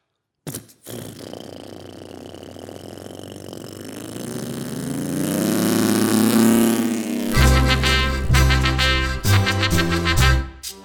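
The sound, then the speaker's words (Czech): A propeller airplane engine sputters to life and steadily winds up to a loud, droning roar, then upbeat music with a strong beat kicks in over the running engine. “Aero, aero, aeroplán. Nejúžasnější ze strojů, co jich znám.”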